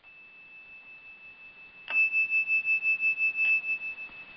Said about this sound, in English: So in a moment, I'll ring the bell and give a jumping off line, and you just let that take you wherever it will, and then keep writing without stopping until you hear the bell ring again.